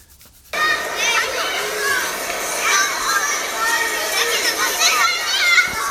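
crowd, children playing

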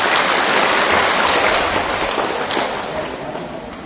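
crowd, applause

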